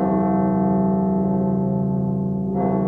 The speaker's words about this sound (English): Bells ringing today at a Russian Orthodox church in Moscow. They were bells of mourning. Patriarch Alexei II, leader of the Russian Orthodox Church, died today at the age of 79.